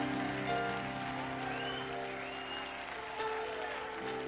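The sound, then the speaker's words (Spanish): Sustained applause from an audience, a dense steady patter of clapping hands that holds at an even level for several seconds without any talking over it. “No, dámele el aplauso.”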